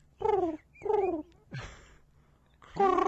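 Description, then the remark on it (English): A person imitates a pigeon's cooing with their voice, making three drawn-out, warbling coos, with a short breathy sound between the second and third. “Do the bird.”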